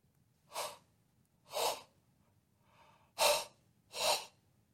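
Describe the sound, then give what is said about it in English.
Four loud, deliberate breaths, exaggerated and wordless, made while trying to speak with breath alone, at a steady pace about a second apart, with a fainter breath between the second and third. Airy, with no speech. “Now, just try breathing without the words and speak to me.”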